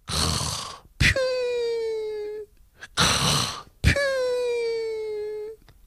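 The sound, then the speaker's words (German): A voice imitates snoring twice in a row, pretending to sleep: each time a rough, rasping inhale is followed by a long, drawn-out whistling exhale. It is fairly loud, with no other sounds. “Dann tut er so, als ob er schnarchend schlafen würde.”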